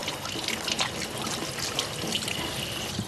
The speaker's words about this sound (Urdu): سب سے پہلے ہاتھوں کو پوری طرح گیلا کریں. اس سے فرق نہیں پڑتا کہ پانی ٹھنڈا ہے یا گرم, پانی کا صاف ہونا ضروری ہے.